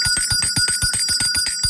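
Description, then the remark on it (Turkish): A rapid, continuous bell ringing, bright metallic strikes repeating about eight times a second with sustained high overtones, loud with no voices; the bell is rung as a signal to drink water. “İşte o zil sesi.”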